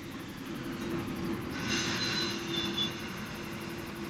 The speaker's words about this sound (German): Dann rollen die Eisenbahnräder. Den ganzen Tag, die ganze Nacht.